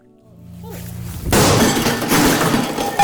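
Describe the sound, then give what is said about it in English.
A low, steady hum gives way to a sudden loud smash as glass is hit and breaks in a rage room at a business called Outrage in Kennesaw, north of Atlanta, Georgia, followed by a sustained clatter of shards scattering and crunching for a couple of seconds. “As soon as I hit it, it's gone.”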